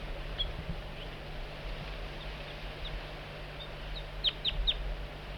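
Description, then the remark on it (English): An adult bird, bird 4-3, gives soft, high, short flight-call notes while coaxing a juvenile in, a few scattered early on, then a quick cluster of three or four near the end, over a steady low background hum. “Bird 4-3 coaxing the juvenile in with soft flight call.”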